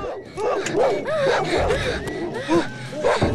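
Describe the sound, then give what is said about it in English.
A large Alsatian dog barks and yelps excitedly in quick, overlapping bursts as it leaps onto a car's bonnet, loud, with a busy, chaotic commotion underneath. “Manny lets Bernie into the car just as the Alsatian leaps on the bonnet.”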